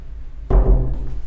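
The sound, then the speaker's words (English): A door shuts with a sudden heavy thud, a single deep impact that booms and then fades into a low rumbling tail. “Careful, don't let the door slam.”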